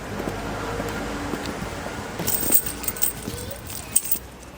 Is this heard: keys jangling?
yes